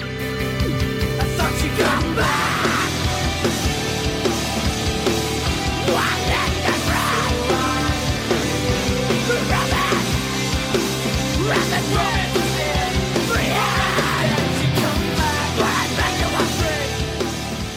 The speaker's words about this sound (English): no song encapsulates the superfluousness of the splat scream better than …